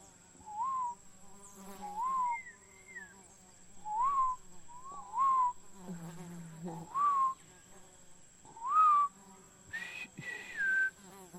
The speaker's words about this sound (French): Ah, je comprends. C'est le même oiseau qui fait ça. Oui, c'est le même.